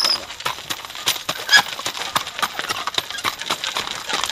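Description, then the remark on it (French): A horse being hitched to a cart walks with a steady clip-clop, its hooves striking hard ground in an even rhythm that carries on throughout. “Donc là, on n'a plus qu'à accrocher le cheval vraiment au char.”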